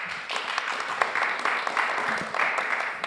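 A club audience claps steadily to welcome guest Andrzej Kosendiak, many hands producing a dense, continuous patter of applause at a fairly even loudness for a few seconds.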